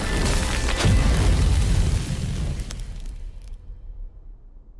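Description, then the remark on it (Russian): A fiery magical blast from a fire arrow spell erupts in a loud, roaring explosion with a deep booming punch, then rumbles and crackles as it slowly fades into a low tail. No voices are heard. “Огненная стрела!”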